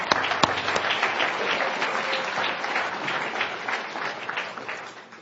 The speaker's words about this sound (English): So you all deserve a round of applause.